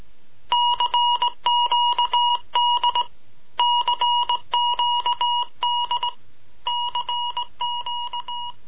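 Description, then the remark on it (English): Morse code signal beeping out CQD: a steady, high electronic tone keyed in rapid short and long pulses, grouped into repeating bursts separated by brief pauses, with no voices. “Morse code, CQD.”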